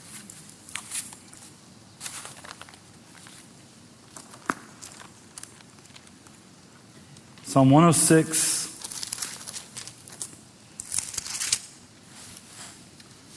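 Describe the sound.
Papery rustling and soft flicks come in bursts as pages of a Bible are turned to find Psalm 106, with a short phrase spoken midway and more crisp page flips after it.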